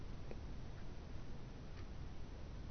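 Faint, sparse ticking of a clock, a few soft clicks spaced irregularly apart, heard against a steady low hiss of background noise with no talking.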